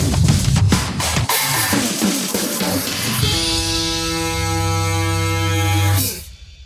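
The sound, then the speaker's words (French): A short, upbeat electronic jingle opens with punchy, bright percussive hits, then settles into a long, loud, sustained low tone like a ship's horn that stops abruptly near the end. “Et un jingle super fun pour une émission, un podcast de tech.”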